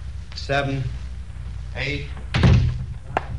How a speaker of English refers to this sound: Shut the door.